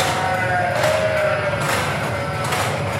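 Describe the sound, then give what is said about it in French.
A ewe lets out a wavering bleat over the constant whirring and hum of a robotic milking machine in a sheep milking parlour, with the noisy parlour din filling the background throughout. “La brebis était en attente derrière.”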